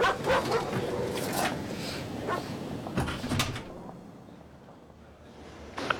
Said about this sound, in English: We'd have shut that mutt out there up. Saves on an alarm system, though, eh? Monster dog in your 4x4.